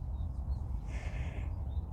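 birds singing outdoors

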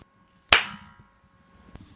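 hands clapping together

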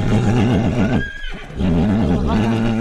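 horse neighing

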